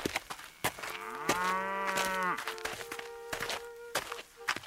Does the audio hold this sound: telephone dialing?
no